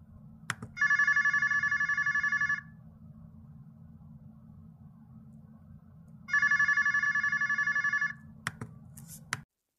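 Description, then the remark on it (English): A telephone rings twice as a phone call is placed, each long electronic trill lasting a couple of seconds with a pause between, over a low steady hum, with a few sharp clicks at the start and end. “We need to make another phone call.”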